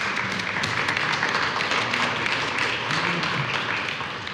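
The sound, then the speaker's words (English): A crowd applauds steadily, a dense wash of many hands clapping at once with a few faint voices murmuring underneath, holding even and loud before easing slightly at the end. “Applause for all of our...”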